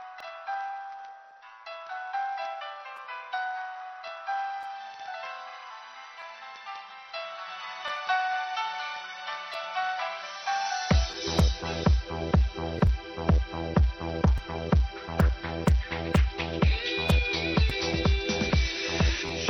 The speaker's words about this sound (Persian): در این حال آقای غلام حسین هم از کرمان خواستار این آهنگ بودن. انشالله الان آماده هستن و آهنگ دلخواهشون رو میشنون.